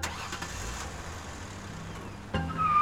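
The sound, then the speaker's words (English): A two-toned car with its lights off, being pursued by Lieutenant Morris near the Belvedere Avenue Bridge, runs steadily, then abruptly surges louder near the end as it revs and speeds away through a red light, with a rising whine over the rumble. “Suspicious, Morris pursued the car and saw it run a red light.”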